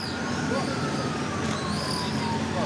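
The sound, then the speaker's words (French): Emergency sirens wail with rising and falling tones amid war, over a dense, steady roar of background noise, continuing throughout at moderate volume. “Une explosion, des cris, des sirènes, et puis tout à coup, vous l'entendez, le chant des oiseaux.”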